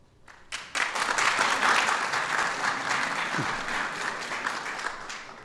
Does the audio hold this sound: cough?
no